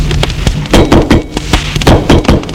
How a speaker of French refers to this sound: On a frappé à la porte.